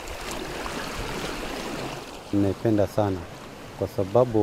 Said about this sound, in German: Langsam bewegt sie sich auf den Ozean zu, bis die Wellen sie umspülen.